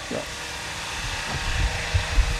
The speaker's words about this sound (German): Ja, man hört, es ist eine Baustelle. Hier wird auch fleißig schon gearbeitet, dass das dann auch alles rechtzeitig fertig wird.